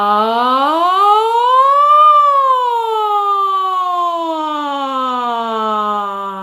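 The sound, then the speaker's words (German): In a voice exercise, a single voice glides up in a smooth, siren-like sweep, peaks, then slowly slides back down, sustained and fairly loud with rich harmonics, imitating a siren without words. “Erstmal eine kleine Sirene und dann erweitern wir das noch.”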